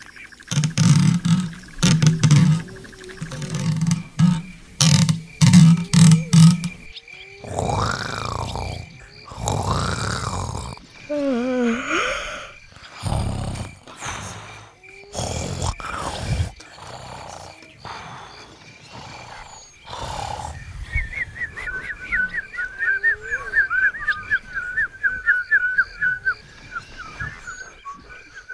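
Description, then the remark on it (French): An elephant feeds on leaves from a tree, with low rumbling grunts and loud bursts of rustling and crunching foliage, irregular, with no talking. “Éléphant mange miam miam miam des feuilles. Brrr, l'arbre.”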